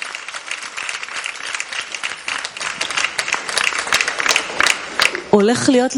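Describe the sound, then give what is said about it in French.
A steady wash of audience applause, many hands clapping at once in a dense, crackling texture that holds for several seconds before a voice starts speaking over its tail. “Voilà, applaudissements.”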